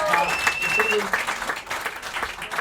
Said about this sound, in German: Kleiner Applaus für den jungen Mann, der ist.